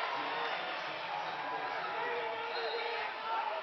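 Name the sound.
basketball crowd cheering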